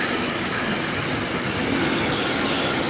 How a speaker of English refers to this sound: That's a long train. Sorry for that. That's what you get when you live on the main railroad from Antwerp to Cologne, where there's of course a lot of freight going from the Antwerp harbor to the industrial area in the North Rhine-Westphalia